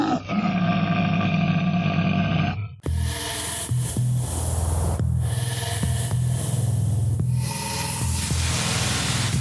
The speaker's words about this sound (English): Awesome. I'm feeling great because you know why? Because you just got done screaming? Well, that too, you know